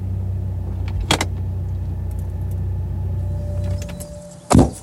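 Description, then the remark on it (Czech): A car engine hums low and steady as the vehicle rolls slowly into a small parking lot above Český Šternberk, with a brief clunk early on; the engine then fades out and a sharp thud follows near the end. “No tak jsme na parkovišti teďkon, nad Českým Šternberkem, kde prostě se vejde, já nevím, odhadem 30 aut, možná dva autobusy, nic velkého to není.”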